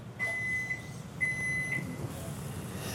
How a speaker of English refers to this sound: Okay, so it's lunchtime. We got our chicken, broccoli, and rice. I'm gonna throw this in the microwave.